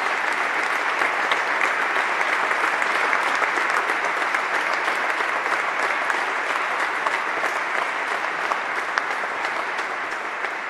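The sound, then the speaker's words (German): Loud, sustained applause from a large audience welcoming the hosts in a glass hall at the Sparkasse in Wuppertal, a dense steady wash of clapping with scattered sharp claps, holding strong for the full length and easing only slightly at the end, with no talk. “Vielen, vielen Dank für diese sensationelle Begrüßung hier in dieser wunderschönen Glashalle in Wuppertal bei der Sparkasse.”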